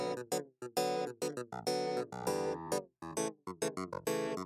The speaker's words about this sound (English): I also have a clav synthesizer to pay homage to …. Aw. Here it is.